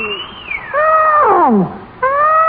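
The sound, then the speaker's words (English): Several overlapping elephant trumpeting calls from a herd of elephants in Let's Pretend, loud and likely voiced by people imitating them: a long swooping blare, a burst of layered calls sliding downward, then another sustained trumpet. “I vote for a whole herd of elephants.”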